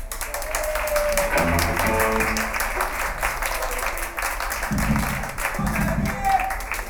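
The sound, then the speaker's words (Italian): Audience applause fills the whole stretch, a steady dense patter of many hands clapping at moderate loudness, with a few low voices murmuring and calling out underneath. “E un applauso alle mutande.”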